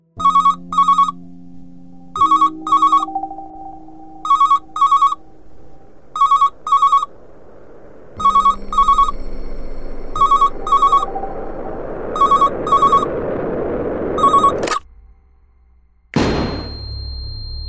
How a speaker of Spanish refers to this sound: La alarma se activa y pone en movimiento al equipo de la policía judicial que acudirá al lugar en búsqueda de indicios.